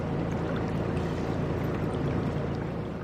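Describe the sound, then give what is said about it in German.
A steady low engine drone with rushing water and hull wash, constant, as a ship carrying funeral mourners travels on the Rhine from Budenheim toward a burial site at Mainz, Germany; no one speaks. “Die Angehörigen sind in Budenheim an Bord gekommen und dann eine Stunde mit dem Boot zum Ort der Beisetzung gefahren, nach Mainz.”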